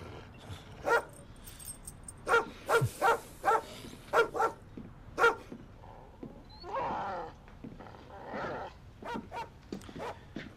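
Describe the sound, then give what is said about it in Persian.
A neighbour's dog barks loudly and repeatedly in quick bursts, then breaks into rougher, growly snarls and shorter barks, with no one talking. “سگ همسایه قاطی کرده درست از وقتی که نامزد زک کشته شد”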